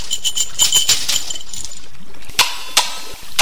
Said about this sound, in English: Once again, throwing the coins in the fountain wakes up the spirit of the fountain.